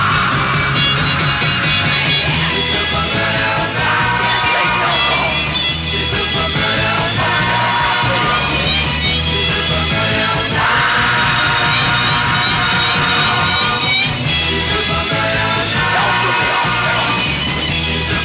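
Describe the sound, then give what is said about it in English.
Raw, screaming vocals ride over a loud, driving rock band with pounding drums and distorted guitars on a 45 rpm record, the shouted singing cutting through continuously at full volume. “That is one intense 45. A lot of great screaming in the record.”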